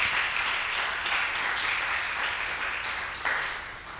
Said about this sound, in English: If you agree with me, I think we should be clapping to God's glory.